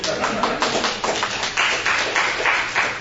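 A person claps hands while visitors from Brazil are being welcomed. The claps come in a quick, slightly uneven series of sharp, bright slaps that continue for about three seconds, fairly loud and with no voices over them.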